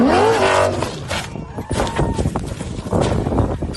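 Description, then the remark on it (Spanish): A rally car's engine screams at high revs, then gives way to a loud jumble of thuds, scrapes and crunching impacts as the car launches off a dune in the Saudi Arabian desert and rolls over, about 2 kilometres into the tenth special stage. “en los primeros kilómetros de la etapa hacia una duna que va con unos cuantos fotógrafos, el coche sale volando y vueltas de campana.”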